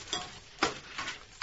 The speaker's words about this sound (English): I'll make a nice cup of tea. That'll perk you up. The kettle.